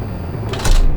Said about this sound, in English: Office, dim windows and locked doors.